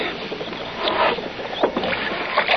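Wet, sloshing scrubbing of a window with water, with water swishing and squeaking in uneven strokes for a few seconds, and small splashy bursts standing out. No one speaks.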